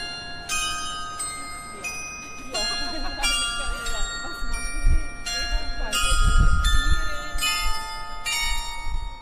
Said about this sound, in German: Ja, Glockenweihe ist dann wirklich der Höhepunkt, wie in Balwil im Jahr 2008. Die schön verzierte Kirchenglocke ist zuerst in der Pfarrkirche vom Pfarrer mit Weihwasser gesegnet worden.